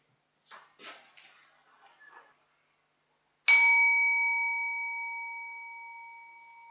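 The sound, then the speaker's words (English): A single bell is struck once to end a two-minute silence and rings out with a clear, sustained tone that slowly fades over several seconds, preceded by a few faint, soft rustling sounds in near-silence. “And when you hear the bell, you're then invited to come and name the person that you would like to bless.”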